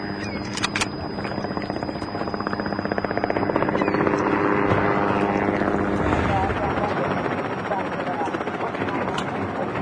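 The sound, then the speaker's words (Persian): An American helicopter circles overhead above a group, its rotor blades thumping in a steady, rapid chop. The loud engine roar swells toward the middle and then eases slightly as the craft moves around. “هلیکوپتر آمریکایی بالای سر گروه چرخ میزنه.”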